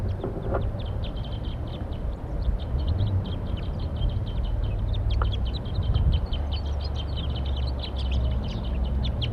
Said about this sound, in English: Trying to call them off and fly off. There they go. Wild birds in flight.